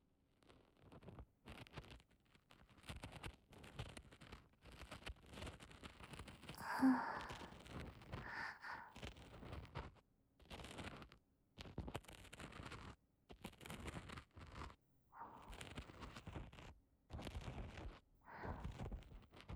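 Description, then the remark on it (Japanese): Intimate scratching and scraping from a type A spatula-style ear pick working carefully in the shallow part of an ear, in a steady series of short, crackly strokes with brief pauses and no talking. “じゃあまずはヘラ型A タイプの耳かきを使って、浅いとこから丁寧に。”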